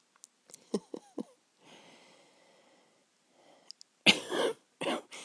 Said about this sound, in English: Yeah, just on cue. Yeah, my cough, feeling a lot better. It kept me awake a lot last night.